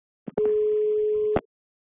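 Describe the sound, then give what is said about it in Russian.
A single steady telephone line tone sounds for about a second, loud, bracketed by sharp clicks as the line connects and cuts off. “Ну и всего лишь следующий телефонный звонок. Алло.”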